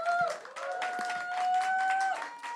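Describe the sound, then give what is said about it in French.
An audience bursts into dense, continuous applause for a couple of seconds, the clapping loud, with a steady high whistling tone running through it, applauding the venue La Flèche d'Or on its 5th anniversary. “Alors pour le 5e anniversaire de La Flèche d'Or, bon déjà tonnerre d'applaudissements pour La Flèche d'Or qui nous accueille ce soir, messieurs, dames.”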